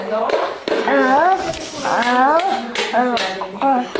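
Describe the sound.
A few sharp hand claps and taps land between lines of a high, sing-song voice. They are spaced irregularly rather than in a steady beat and are moderately loud.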